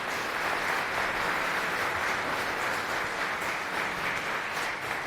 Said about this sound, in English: So a round of applause